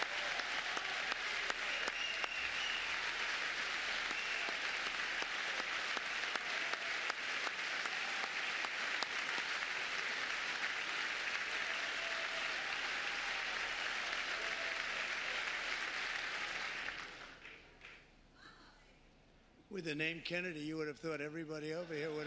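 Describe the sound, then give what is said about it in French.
A loud, dense wave of audience applause for Health and Human Services Secretary Robert F. Kennedy Jr. rolls on steadily for about seventeen seconds, then quickly thins out and fades before a voice starts speaking. “Vous êtes un Kennedy, on aurait pu penser que tout le monde vous aurait applaudi de ce côté-ci, mais ils oublient rapidement.”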